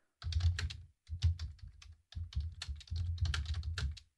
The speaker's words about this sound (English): And I just apologize for the typing.